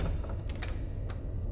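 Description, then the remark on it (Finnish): A cockpit door opening with a few quick mechanical clicks and a soft latch sound, heard over a steady low engine-like hum, with no one talking. “Ohjaamon ovi avautuu.”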